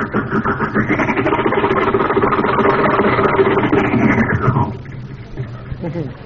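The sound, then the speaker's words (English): An old car engine runs with a steady, rough rumble for about four and a half seconds, then drops off sharply to a quieter idle while faint voices continue underneath. “Gears are a little stiff, you know. New car.”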